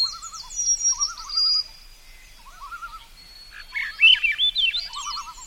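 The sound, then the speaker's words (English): Birds, including a yellow-rumped warbler, a migratory bird of the boreal forest, calling and singing together: bright high chirps and warbling trills repeat in quick bursts, with a lower run of rippling notes recurring underneath, and no voices. “You can honor these birds and celebrate the remarkable journeys they make”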